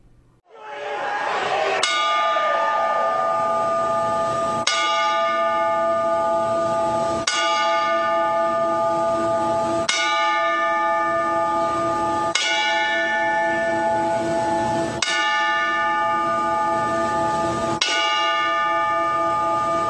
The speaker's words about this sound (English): At this time, we will now observe a 10-bell salute to pay our respects to the late Nelson Frazier Jr.